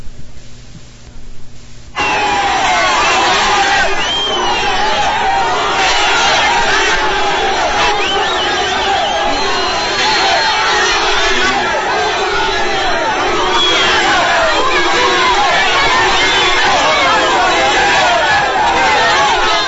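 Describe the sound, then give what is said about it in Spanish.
A large crowd at the Simón Bolívar International Bridge in the border zone boos and jeers Foreign Minister María Ángela Holguín on her arrival, a loud, dense, sustained roar of many overlapping voices that kicks in after a quieter first two seconds and carries on steadily to the end. “Conocimos muchas historias, pero algo muy curioso fue la llegada de la canciller a la zona de frontera, al puente internacional Simón Bolívar, donde con abucheos quienes estaban allí la recibieron.”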